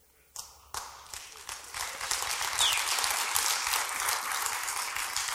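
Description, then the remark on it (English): Applause from a crowd starts with a few sharp claps, then quickly swells into steady, dense clapping that keeps going at a fairly loud level. “I pay him $100 every week to clap.”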